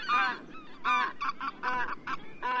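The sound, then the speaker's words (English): Greater white-fronted geese honk in a quick series of high, yelping calls, several birds overlapping with brief gaps between bursts. “As geese go, white-fronted geese are especially strong, athletic flyers.”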